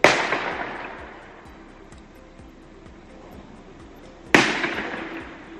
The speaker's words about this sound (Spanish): fuentes de la comisaría de policía informan que ha habido un altercado con varias detonaciones en la Avenida de la Juventud. Así sonaban esos disparos en la noche abulense.